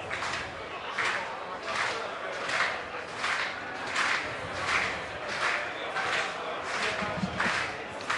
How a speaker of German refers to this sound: Die Fans klatschen wieder, weil sie einfach sehr solidarisch sind. Ich finde das immer echt eine super Aktion, um einfach so dem Spieler auf dem Feld mitzugeben. Okay, wir unterstützen dich, wir sind bei dir.